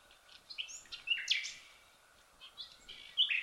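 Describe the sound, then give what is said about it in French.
Small garden birds, including sparrows and turtle doves, chirp and twitter in bursts, a mix of short high calls and brief trills, quiet, with soft background hiss and no one talking. “Il y a les moineaux, pour commencer les moineaux, les tourterelles.”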